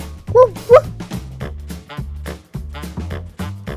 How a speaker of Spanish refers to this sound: Es quien vigila la casa, quien avisa si alguien pasa y el fiel amigo del hombre. ¿Ustedes saben qué es? Dime qué es. ¿Ya lo saben? Si no, les digo. El perro.